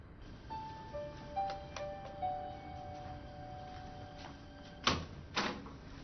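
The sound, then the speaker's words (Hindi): A door is unlocked and opened for someone waiting at it: faint creaking squeaks and light clicks, then two sharp metallic clunks of the latch and bolt near the end, with no voices. “दरवाजे पर हो, अभी खोलता हूं।”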